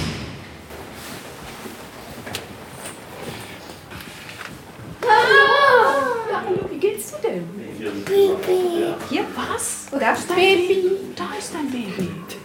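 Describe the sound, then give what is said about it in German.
A baby babbles and coos in short, high-pitched bursts during ward rounds in the children's clinic of an epilepsy center, with adult voices murmuring around it, after several seconds of quiet hum. “Visite in der Kinderklinik des Epilepsiezentrums.”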